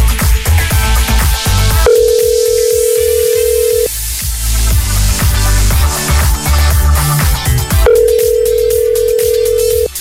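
An outgoing call's ringback tone sounds in two steady, two-second tones with a pause between, heard clearly over busy rhythmic background music, as a call is placed to a quiz contestant.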